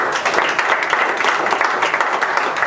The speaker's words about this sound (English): Give moms a hand of applause.